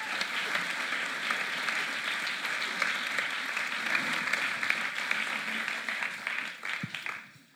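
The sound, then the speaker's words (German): A crowd at a sermon applauds steadily as two guests are called onto the stage, a dense patter of many hands clapping at once, sustained and fairly loud before tapering off at the very end. “Ich darf euch beide nach vorne bitten und euch ihnen einen riesen Applaus zu geben.”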